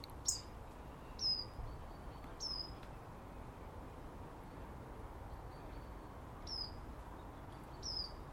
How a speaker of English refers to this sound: Me and Mr. Robin chirping. You hear him? No. Sharp chip.